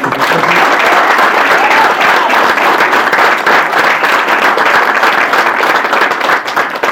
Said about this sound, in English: But we deserve a round of applause for her.